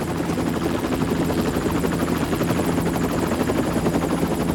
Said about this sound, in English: Jack requisitioned the chopper 15 minutes ago, but he didn't log a destination.